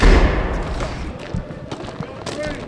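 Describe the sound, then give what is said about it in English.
A heavy prison yard door at the single cell 2 and 3 rec yard slams shut with a loud, deep boom, followed by a few softer clanks and a brief metallic ringing as it settles. “Once the door's shut, that's it.”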